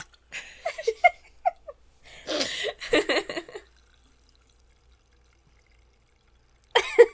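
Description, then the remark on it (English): Liquid crackle and pour-like bursts, like a carbonated drink fizzing and popping in irregular spurts, then a few seconds of quiet before one last short burst. “This kind of sounds like a pot boiling. Sounds like Pop Rocks to me.”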